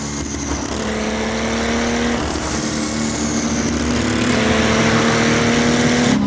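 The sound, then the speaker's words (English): A turbocharged car engine revs loudly on boost, its pitch climbing steadily through several seconds under a hissing, whooshing layer, with no voices. “You really tell when it's on boost. Right. It really comes alive.”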